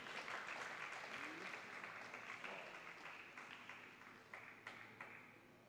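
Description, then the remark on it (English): A crowd applauds steadily as a guest is introduced, dense clapping before gradually thinning and fading toward the end, with a few louder individual claps standing out late. “Let's keep clapping for him.”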